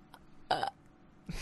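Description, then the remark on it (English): A short, loud burp erupts, followed by a brief pause and the start of another throaty burst, with no talking over it. The burp is used as a mouth-made buzzer sound in a guessing game. “But you may just be burping any time.”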